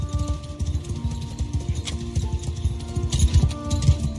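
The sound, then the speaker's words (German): Steady clip-clop of horse hooves trotting at an unhurried, relaxed pace in a medieval-world video game, riding through a small picturesque village, fairly loud over a soft sustained musical backdrop, with no voices. “Man fängt an mit einem Pferd, einem rostigen Schwert und ein paar Goldmünzen in der Tasche und dann trabt man erstmal so ganz, ganz entspannt durch die Gegend.”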